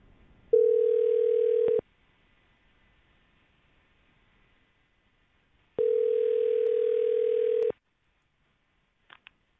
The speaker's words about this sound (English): That was your phone ringing.